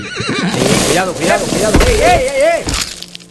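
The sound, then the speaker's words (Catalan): A horse whinnies loudly, a long wavering neigh rising and falling in pitch over a few seconds, with a rough, breathy edge. “Però aquell dia la mala sort vol que el cavall rellisqui i acabin tots dos al fons d'un barranc.”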